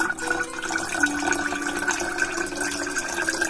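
A steady stream of liquid pours into a glass, a continuous gurgling splash whose tone rises slightly as it fills. Moderately loud, with no voices.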